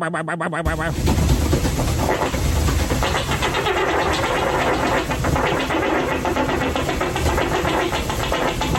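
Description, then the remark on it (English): A long, loud rumbling fart from a man in a fart video kicks in after a brief moment and keeps going for about eight seconds, deep and rattling with a steady sputtering texture and no talking. “He sounds like a goddamn unbalanced washing machine there.”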